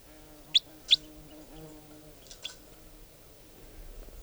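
A wild bird, a type 4 bird, sings from the trees above in short, high-pitched chirps: two sharp, loud notes in quick succession, then a couple of fainter ones after a pause, over a low steady background hum.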